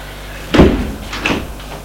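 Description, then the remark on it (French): A door opens: a solid thump of the latch and handle, then a second, lighter clunk with a brief squeak about half a second later. No one speaks. “S'ouvre.”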